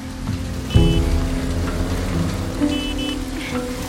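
Heavy rain pours down in a steady, dense hiss, with a low rumbling hum beneath it and a few brief high-pitched tones cutting through now and then.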